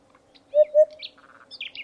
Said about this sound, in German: Wenn es so klingt in der Landschaft, dann hat das mit der Wiederansiedlung des Wiedehopfs geklappt. So wie in der Oranienbaumer Heide bei Dessau, wo ein ehemaliger Truppenübungsplatz durch Beweidung mit Rindern und Pferden offen gehalten wird.